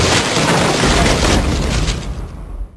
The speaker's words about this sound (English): The entire floor collapses down into it, spraying up a sort of dust and a horrendous smell, and a black hole is revealed.